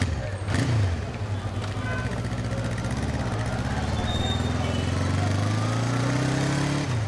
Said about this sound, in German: Mit einem der vielen Motorradtaxis fahre ich zum Sender Radio Moto.